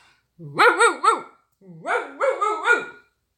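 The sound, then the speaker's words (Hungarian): Two quick bursts of yappy barking, three barks each, fairly loud, with a hoarse, voice-like tone that suggests a person imitating a pack of dogs under a bed wanting to rush out. “hát lefekvés előtt véletlenül nyitva felejtettük az ajtót, s bejött egy csomó kutya ide az ágy alá. Most megérezték a szagodat, s ki akarnak rontani.”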